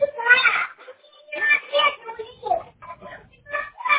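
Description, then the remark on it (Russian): Children's voices ring out in loud, excited bursts, several overlapping shouts and cries rising and falling over a few seconds, with a thin, telephone-like quality. “Ничего не услышала, и дети кричат.”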